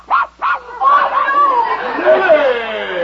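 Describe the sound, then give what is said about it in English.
A small dog in a basket gives two quick, sharp barks, then several people start talking over one another in an excited jumble. “get that dog out of here.”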